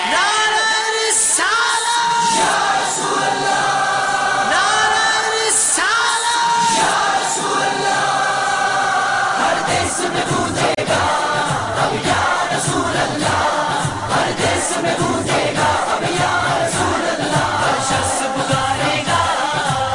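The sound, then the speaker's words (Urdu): A large crowd loudly chants the religious slogan "Ya Rasool Allah" in unison, voices rising and falling in rhythmic bursts, then dissolves into a dense, continuous roar of shouting and yelling. “دوستو جب تک جس میں خون باقی ہے اور جب تک خون میں حرارت باقی ہے, قسم اس پیدا کرنے والے کی ہم یا رسول اللہ کا نعرہ لگانا نہیں چھوڑ سکتے.”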